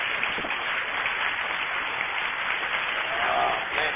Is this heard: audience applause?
yes